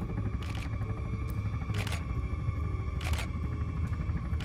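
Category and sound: camera shutter clicking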